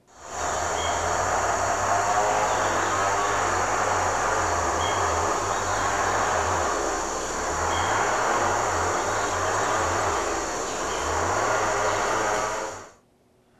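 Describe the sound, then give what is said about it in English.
A chainsaw engine in a field recording of human-made sounds drones steadily for about twelve seconds, with a low throbbing rumble that pulses unevenly beneath broad hissing noise and a thin constant high whine, then cuts off abruptly. “So, sounded like a chainsaw in there.”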